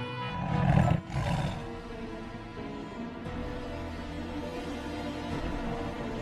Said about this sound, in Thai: ทั้งเสือโคร่งและราชสีห์ต่างแผดเสียงเถียงกันลั่นป่าเมื่อหาข้อยุติไม่ได้